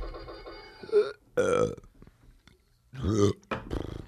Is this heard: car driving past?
no